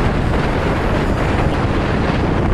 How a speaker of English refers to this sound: But the waves are literally just feet below me. And I'm in danger of losing my glasses because this wind is just so strong.